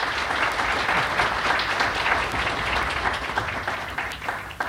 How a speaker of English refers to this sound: So here he is. A nice round of applause for a real nice guy,